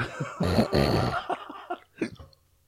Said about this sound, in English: I got the fucking hiccups